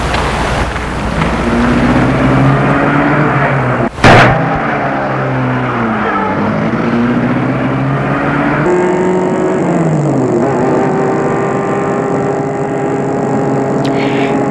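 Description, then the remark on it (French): A car engine is started and runs steadily and loudly, its pitch climbing and dropping as it revs and drives off, with a sharp knock partway through and a high whine later. “Et met sa voiture en route.”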